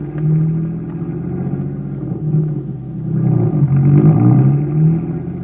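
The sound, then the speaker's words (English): A car engine rumbles, its low throaty drone swelling as it revs up twice, pitch climbing and falling with each burst of throttle. No one speaks. “Get the car going and let's get there.”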